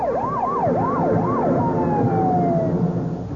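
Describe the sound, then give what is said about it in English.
Police escort sirens wail, a fast rising-and-falling yelp giving way to a long, slowly dropping tone, over a steady rumble of engines and traffic, as a two-tone blue four-door sedan with three occupants speeds down Pennsylvania Avenue with the police escort through parting roadblocks. “A two-tone blue four-door sedan is speeding down Pennsylvania Avenue and coming this way with the police escort.”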